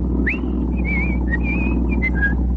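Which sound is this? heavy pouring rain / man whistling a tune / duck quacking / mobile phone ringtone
man whistling a tune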